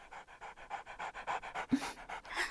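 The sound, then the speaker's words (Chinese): A large black dog, led up onto a stage, pants rapidly and steadily, quick rhythmic breaths repeating throughout, with one sharper, louder exhale near the end. No one speaks. “从舞台下面牵上来一条大黑狗”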